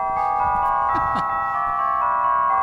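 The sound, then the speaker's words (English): A steady electronic chime jingle announcing that a package has arrived plays throughout, its bright sustained tones layered together at a constant, fairly loud level, with a few brief low noises underneath. “Those flashing lights and those familiar chimes mean that we have a package here.”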